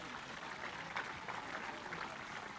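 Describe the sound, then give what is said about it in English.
A crowd at a festival applauds its sponsors steadily throughout, a dense, even wash of many hands clapping, fairly quiet, with no single claps standing out. “Please give all of them a big round of applause.”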